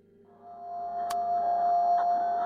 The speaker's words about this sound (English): Ugh, that drone. It's shaking the fillings right out of my head.